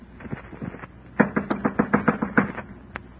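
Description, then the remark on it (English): Knocking on a door at the top of a flight of stairs: a quick, evenly paced run of about ten firm raps, preceded by a few softer taps and followed by one lone knock after a brief pause. “I clenched my teeth, my knuckles, and knocked on the door.”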